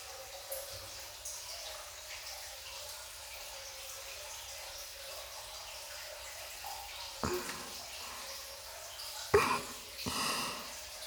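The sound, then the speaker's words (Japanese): Soft scrubbing in a bath over a quiet watery hiss, with a few brisk rubbing bursts near the end, no voices. “ゴシゴシ。”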